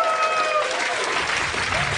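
A crowd breaks into steady, loud applause for the man who made the hosts' t-shirts, a dense wash of clapping that holds evenly throughout, with a faint tonal whistle or cheer briefly riding over it at the start.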